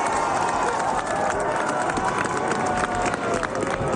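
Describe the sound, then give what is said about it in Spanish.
A large crowd applauding Pope Francis as he is seen again at a hospital room balcony 37 days after his admission, a dense, steady wash of clapping mixed with a murmur of cheering voices, holding at an even, fairly loud level for the whole four seconds. “Este sin duda es uno de los sonidos que más nos han emocionado este fin de semana. Aplausos al Papa Francisco, que 37 días después de su ingreso, por fin volvíamos a verles.”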